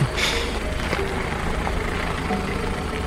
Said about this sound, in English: Yes. I did, in fact, notice a car in front of me on the road slowing to a stop.